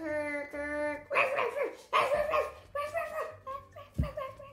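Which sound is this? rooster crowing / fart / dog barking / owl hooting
dog barking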